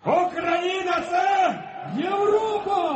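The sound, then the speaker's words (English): A protest crowd in European Square in Kiev, Ukraine, chants the slogan "Ukraine is Europe" in unison, loud, the rhythmic phrase rising and repeating about three times with the voices merging into one steady shout. “Ukraine is Europe, the crowd shouted.”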